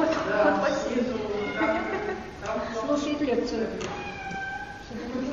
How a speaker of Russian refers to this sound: Это кот так орет?